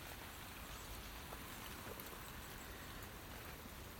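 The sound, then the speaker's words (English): Rain falls steadily outside in the morning as a continuous, even hiss with a dense patter, fairly soft and unbroken throughout, with no voices. “But it is druk this morning.”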